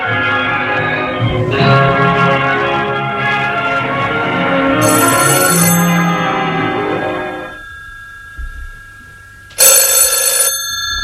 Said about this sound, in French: Le téléphone sonne. Il décroche.